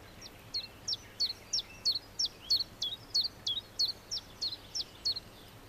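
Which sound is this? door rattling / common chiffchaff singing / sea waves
common chiffchaff singing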